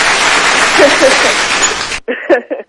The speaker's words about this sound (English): We can afford claps now, so we got you claps. Afford this clap. Okay, I like some claps.